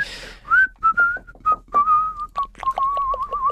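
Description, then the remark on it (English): A person whistles a bouncy, melodic tune, a string of short clear notes and a few held ones, clean and fairly loud with no talking. “I don't even know what I'm whistling there.”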